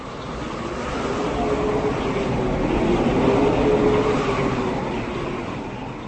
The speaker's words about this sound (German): der Sturm hat zugenommen und wir haben Windstärke 10.